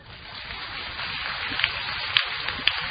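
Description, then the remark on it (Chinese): Steady, dense crackling patter of many hands clapping at once, a sustained wash of applause at moderate loudness with a few sharper claps standing out near the end. “鼓掌不要鼓得太热烈，鼓得太热烈不是太好，对不对啊？”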